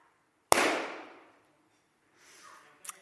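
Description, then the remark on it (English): A loud, sharp balloon pop bursts out and trails off in a fading hiss. After a pause comes a soft rustle, then a second, smaller pop. No one speaks. “These popped balloons are not the King that we see in the Bible.”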